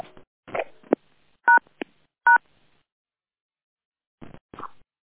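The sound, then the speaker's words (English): Two or three short telephone keypad beeps sound in quick succession, fairly loud, surrounded by brief clicks and handling noises with quiet gaps between, and no one speaking, as phone lines are being unmuted. “Take a deep breath in as I unmute the phones for our morning's affirmation and Buddhist meditations.”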